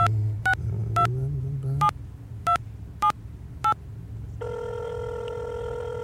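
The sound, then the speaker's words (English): Seven short, clear keypad beeps of a phone being dialed in an uneven rhythm, then a steady electronic ringing tone holds to the end over a low background hum; no one speaks. “can I see that phone?”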